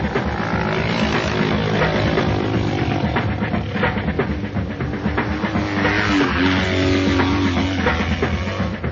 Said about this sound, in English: A motorcycle has two wheels and handlebars to steer it. It's fun to drive, and when you drive, everyone can hear it.